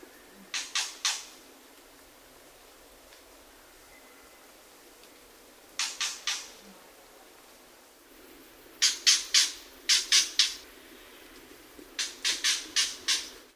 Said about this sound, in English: Though an accomplished mimic, the Shama has this signature clucking sound, often given at the end of a long phrase.